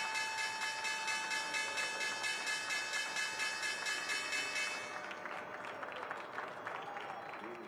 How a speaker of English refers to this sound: There we have the opening bell on this Thursday morning.